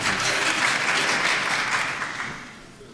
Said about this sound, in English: The courtroom will be cleared if there's any more clapping.